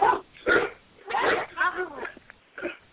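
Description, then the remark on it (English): The speaker's own dogs barking in a quick, irregular run of five or six short, sharp yaps, moderately loud, with brief quiet gaps between them. “Oh, that's my dogs.”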